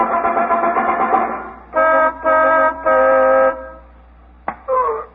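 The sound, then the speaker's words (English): A car horn honks three times in a steady sequence on a dark street as a signal that the coast is clear, each blast loud and sustained, with a voice speaking just before, and a sharp click and another voice right after. “On the way to the station, Phyllis was going to drive off somewhere onto a dark street and honk the horn three times when the coast was clear.”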